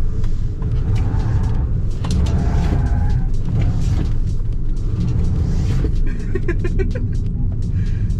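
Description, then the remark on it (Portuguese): A small BYD urban car, the version called turbo, accelerates as the driver speeds up: a loud continuous low drone with rumbling road noise, its pitch climbing in bands toward the end; no one speaks. “Agora vamos ver, vou acelerar mais um pouco.”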